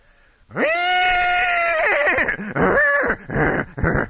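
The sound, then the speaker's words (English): A person imitates a horse's whinny, loud: one long, high, held cry that breaks into shaky, wavering neighs that drop in pitch, with no other sounds around it. “And I conclude the program with a horse.”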